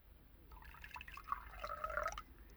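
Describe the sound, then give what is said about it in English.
Black coffee trickles and splashes into a cup for about two seconds, a soft pour with bubbling tones that rise as it fills, no voices. “Here, I'll pour you a cup.”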